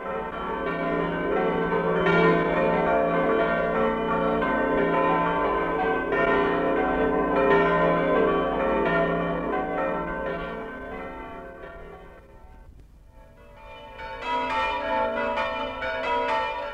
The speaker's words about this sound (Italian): da Cercivento a Zovello, da Ravascletto a Noiaris, da Paluzza a Treppocarnico, da Paularo a Priola, da Timau a Ligosullo, lanciano gli argentei rintocchi delle loro campane per dare a voi, amici emigrati, l'accorato nostalgico saluto della carne.